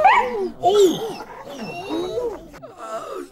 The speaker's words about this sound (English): The dog turned, leapt, and bit hard.